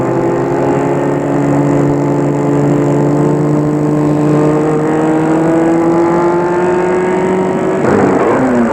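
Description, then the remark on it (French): A car engine hums steadily, its pitch creeping slightly upward, then shifts abruptly near the end as the car slows to a stop in front of the entrance of a small country cemetery. “Arrêtez la voiture devant l'entrée du cimetière.”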